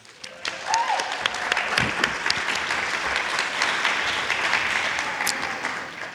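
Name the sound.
audience applause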